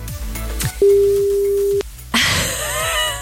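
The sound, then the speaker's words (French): A steady telephone line tone from an unanswered call that reaches an answering machine holds for about a second over a low rhythmic background, then cuts off before a burst of noisy, busier sound takes over. “Est-ce qu'on n'aurait pas un problème de téléphone? Mais non, parce qu'on tombe sur des répondeurs à chaque fois.”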